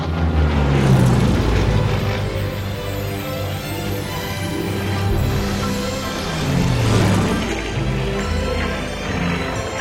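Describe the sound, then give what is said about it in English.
The engine of a life-size version of a toy airplane drones loudly and steadily, swelling in a rushing whoosh around the start and again near the end as it zooms through the air and ascends above the clouds, with no voices. “Now, a life-size version of the toy plane zooms through the air and ascends above the clouds.”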